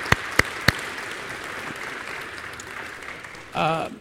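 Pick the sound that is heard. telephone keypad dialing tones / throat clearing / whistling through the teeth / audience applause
audience applause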